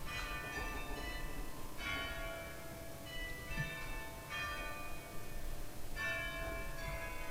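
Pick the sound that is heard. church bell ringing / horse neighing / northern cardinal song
church bell ringing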